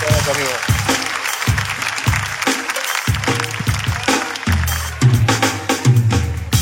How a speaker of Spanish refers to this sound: Un fuerte aplauso para el personal trainer.